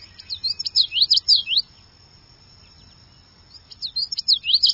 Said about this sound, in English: Cattail marshes will soon ring with the galloping melody of the common yellowthroat.